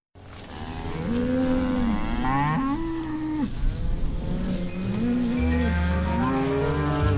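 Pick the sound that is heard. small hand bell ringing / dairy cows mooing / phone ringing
dairy cows mooing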